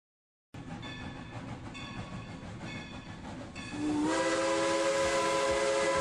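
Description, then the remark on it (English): A steam locomotive of the Cumbres and Toltec Scenic Railroad, running between Antonito, Colorado and Chama, New Mexico, rumbles and clatters along the rails with railcars rolling behind, then a loud, sustained steam whistle blows over the hissing, powerful, with no one speaking. “Climb aboard the Cumbres and Toltec Scenic Railroad.”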